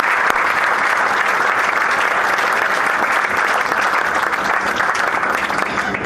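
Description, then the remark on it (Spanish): Steady, dense applause from an audience at an awards ceremony, for the members of the jury that determined the prizes, a continuous crackle of many hands clapping at an even loudness for several seconds, with no voices on top. “y bueno, allí están todos uno al lado del otro para esta foto de conjunto y por supuesto para el aplauso de todos ustedes a la participación e integración de este jurado que ha determinado los premios.”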